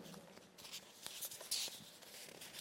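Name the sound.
turning a paper page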